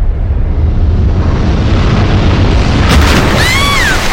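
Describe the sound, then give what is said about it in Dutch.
A small explosion at the back of a ship, the Entrada Royal: a loud, rumbling blast with a deep, sustained roar, followed near the end by a sharp crackling burst and a brief high whistling tone. “Een explosion? Bedoelt u een ontploffing?”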